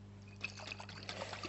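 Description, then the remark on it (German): A soft trickle of water, uneven little splashes and gurgles as it runs into a glass, quiet over a low steady hum. “Das erste Element, Wasser.”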